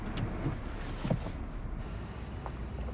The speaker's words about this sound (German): Fassungslos sieht sie ihn an und öffnet die Beifahrertür. Anara steigt aus.